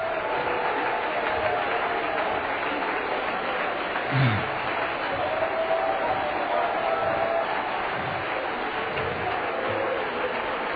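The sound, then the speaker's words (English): A church audience claps hands after a deliverance prayer, a dense, continuous wash of applause at an even loudness throughout, with a faint murmur of voices blended underneath. “Clap your hands if you believe that God has heard our prayer.”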